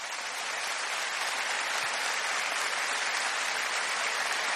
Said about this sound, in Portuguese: E hoje esse cara está aqui abençoando tantas vidas. Uma salva de palmas.